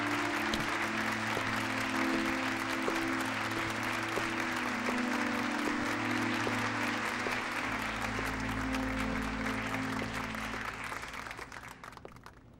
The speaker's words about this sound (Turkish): Alkışlarınız.